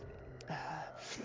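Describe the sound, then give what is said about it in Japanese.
An older man's airy breath blown right up against the microphone into the listener's ear, a soft sustained whoosh with a brief gasp-like swell midway, intimate and fairly loud, with no talking. “まずは、吐息を吹きかけてあげますからね。”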